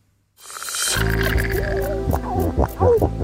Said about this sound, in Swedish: Sälar som knorrar. Och fiskläten. Veckans Naturmorgon handlar om hur det låter under vattenytan.